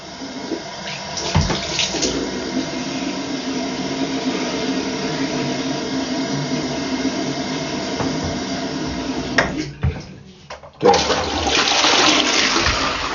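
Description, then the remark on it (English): Water runs steadily from a tap at home, a continuous rushing hiss that briefly cuts off near the end, then resumes louder with splashing as someone wets their hair before going out. No one speaks. “I need to put a bit of water in my hair and get out of the house.”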